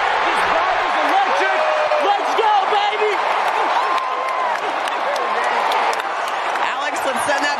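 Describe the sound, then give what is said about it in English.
A large crowd of Atlanta Braves fans at a baseball stadium roars and cheers steadily as Sean Murphy hits a home run and Atlanta takes a 2-1 lead over the Rays. It is a dense wash of many voices with scattered claps and shouts, loud and continuous throughout with no single speaker standing out. “The vibe may be electric, but a lot of the Braves fans are the ones doing the cheering right now.”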